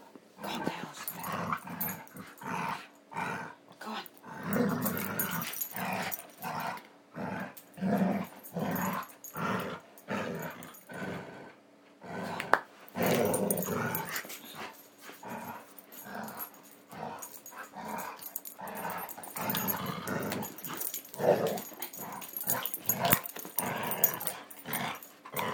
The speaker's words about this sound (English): The dogs are currently playing with a rubber ring, and they're playing tug, and I thought you'd like to hear it.